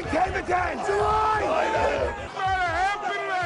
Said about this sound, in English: Most of us have a mental picture of floor traders at the stock market. A group of men in colored jackets shouting at each other, waving bits of paper, gesturing wildly with hand signals.